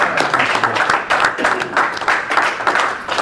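A group of people at a workshop meeting clap together to thank the speakers, a dense, steady patter of many hands that holds at an even, fairly loud level for a few seconds without any pause.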